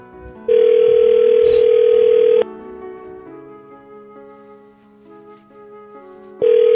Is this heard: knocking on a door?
no